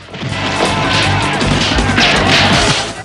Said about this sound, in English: Lee hops over a lion statue and punches a student off the wall.